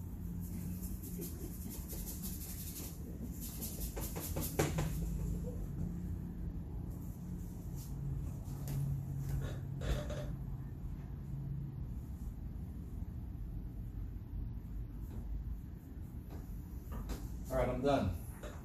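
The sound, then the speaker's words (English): A squeaky wooden easel, built by friends, creaks and knocks as it is handled, with scattered scrapes and a sharper squeal near the end, over a steady low rumble and muffled voice. “This nice squeaky easel.”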